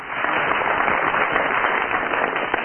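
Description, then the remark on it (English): A large studio audience applauds steadily to judge comedian Barry Cryer's tie-tying, a dense, sustained wash of many hands clapping at once that holds at an even, fairly loud level throughout, with no voices heard. “First of all, will you give your applause or otherwise for Barry Cryer?”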